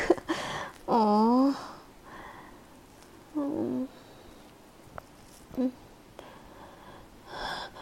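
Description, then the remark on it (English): A voice imitates a cat with a few short, whiny meows. There is one longer wavering cry near the start and briefer ones after, separated by quiet pauses, fairly loud. “Bad kitty now.”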